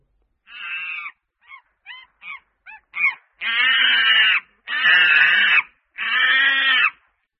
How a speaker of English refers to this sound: A. Monkey.